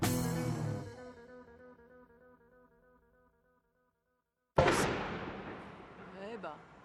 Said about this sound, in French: Là, on vient d'assister à une explosion et on ne sait pas exactement ce que c'est. C'est possible que ce soit une benne.